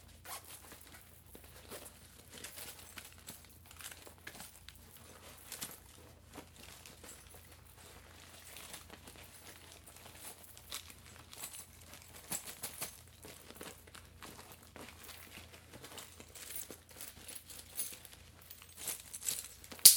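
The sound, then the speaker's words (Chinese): Someone rummages through a handbag with trembling hands, searching for keys to open a door, with continuous soft rustling, crinkling and occasional zipper-like scrapes, irregular, lasting throughout with no talking. “他杵在门口，一边冷静情绪，一边压抑着愤怒，颤抖着翻着包包，想要找到钥匙开门。”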